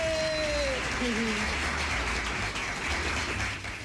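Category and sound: crowd, applause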